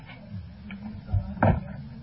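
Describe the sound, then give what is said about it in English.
A door swings shut with a dull low thump followed by a sharper click of the latch, set against a steady low room hum. “Now, can you shut that door? Because I got to read something.”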